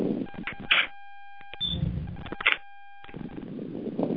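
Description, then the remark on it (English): Muffled, breathy puffs as someone breathes into a phone during a call, coming through the line in uneven gusts, with a faint steady electronic hum and brief silent gaps between the noisy bursts. “Someone's breathing into the phone.”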